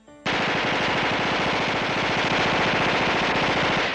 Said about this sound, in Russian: Пистолет-пулемет трясся в неопытных руках, а отдача была так велика, что точность стрельбы оставляла желать много лучшего.